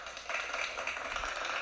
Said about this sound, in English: We're just gonna give you a big old applause.